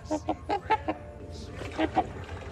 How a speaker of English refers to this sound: And the trumpeter swan.